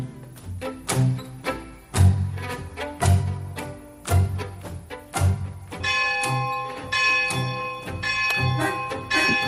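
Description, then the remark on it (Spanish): Parish church bells in a shanty town ring out calling people to mass, in a steady peal, repeated strikes with long shimmering overtones, then blending into a dense continuous clangor of several bells at once, loud. “Las campanas de la parroquia de esta villa miseria llaman a misa,”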